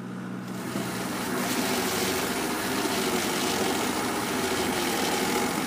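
A lobster boat's four-cylinder diesel engine runs steadily, pushing through 3-foot swells on the way to lobster grounds at the Goose Rocks in the chill of early morning: a loud, continuous low throbbing drone layered with broad rushing noise, with no voices.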